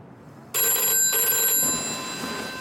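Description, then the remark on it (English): A hotel room telephone in Paris in 1964 starts ringing abruptly at night, a loud, bright metallic trill with steady high-pitched tones that continues without pause for about two seconds, fading slightly toward the end. “He fumbles for the phone.”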